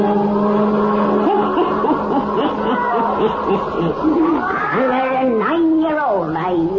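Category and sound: animal, black cat meowing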